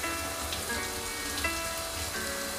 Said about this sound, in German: 10 Minuten später stehe ich unter der Dusche und lausche neuer Musik